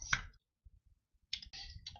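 A sharp tap rings out first, then faint scattered clicks follow, ending in a busier cluster of clattering keystrokes, like typing on a computer keyboard nearby. No one speaks.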